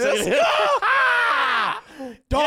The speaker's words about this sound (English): Yeah. Sorry, guys, for screaming.